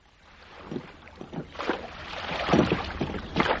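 Oars dip and pull through water as a boat is rowed across a lake in a steady rhythm, each stroke a soft splash and swish, over a low wash of wind and lapping water.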